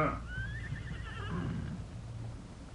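horse neighing

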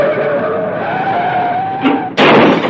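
car tires skidding

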